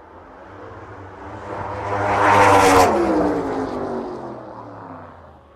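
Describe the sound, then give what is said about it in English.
Two top fuel methanol funny cars race down a drag strip, their loud, high-revving engines roaring past. The noise builds to a harsh, buzzing peak at mid-clip before fading away, with no talking. They cover the quarter mile in about 6.26 seconds at around 230 mph. “And we're currently looking at the top fuel methanol funny cars.”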